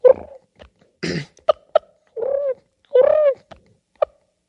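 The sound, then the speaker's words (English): A person imitates a wild turkey's purr, fairly loud: a few short, rolling, arched calls separated by sharp clicks and a brief breathy burst, with no talking. “Do that turkey purr again.”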